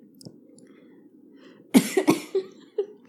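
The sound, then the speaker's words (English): After a quiet moment, someone breaks into a sputtering coughing fit, four or five harsh coughs in quick succession, after inhaling while sipping neat scotch. “I inhaled when I sipped. Man, what a rookie mistake.”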